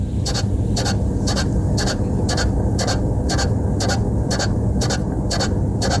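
A Chinese lucky cat's waving arm makes a steady, evenly spaced series of short scratchy ticks, about two or three per second, over a constant low mechanical hum.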